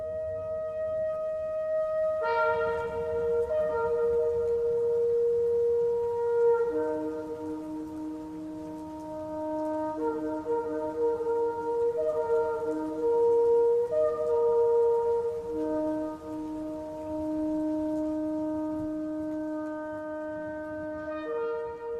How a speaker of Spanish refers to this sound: Comienzo a oír las trompetas. ¡Ah, qué hermoso se oye! Ambas escuchan el sonido lejano y esplendoroso.